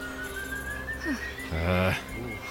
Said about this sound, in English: Well, it sounds like the whistling is going away now.